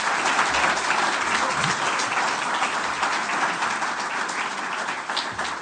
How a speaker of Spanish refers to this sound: Un aplauso para la sala, es realmente muy bonito.